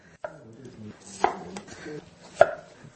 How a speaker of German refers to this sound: Versuch mal, die Yamswurzeln zu schneiden, aber nicht zu dünn. Die sind wirklich frisch.